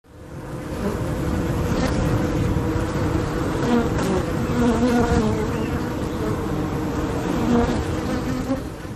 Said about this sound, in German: Jetzt, du bekommst gleich nicht mehr mit, wenn die beiden gestochen werden von den Bienen draußen.